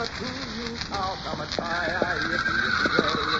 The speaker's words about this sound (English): Hey, sounds like the horses are catching a whiff of a coyote. Coyotes in this country big as wolves.